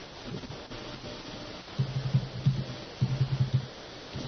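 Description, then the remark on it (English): An outgoing Skype call ringing tone sounds in two short bursts of rapid pulsing tones separated by a brief pause, moderately quiet and steady, with no one talking over it. “Ringing.”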